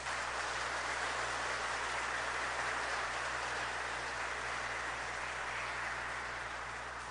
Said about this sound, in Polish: Proszę o brawa dla niej bardzo głośne.